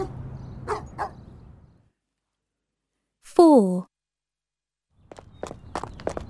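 A single loud dog bark from Rover the dog on a walk, with a slightly whiny, downward-sliding tone, standing alone between stretches of shuffling, scuffing movement sounds.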